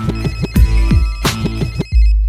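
A telephone rings with a loud, melodic electronic ringtone: a bright repeating tune over pulsing bass that cuts off abruptly near the end, leaving a brief steady tone. No one speaks.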